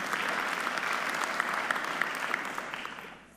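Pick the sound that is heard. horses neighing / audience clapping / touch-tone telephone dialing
audience clapping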